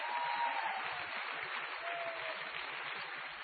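Steady, dense applause from an audience, a continuous crackle of many hands clapping at an even loudness throughout, with a faint whistle-like tone briefly audible over it.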